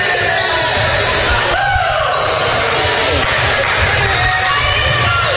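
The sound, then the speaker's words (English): A loud, dense student section crowd yelling and screaming throughout, with overlapping shouts and cheers forming a constant roar, punctuated by a few sharp high-pitched whistles or squeaks, shouting 'tee her up' after a traveling call. “yelling and screaming in our student section saying, tee her up.”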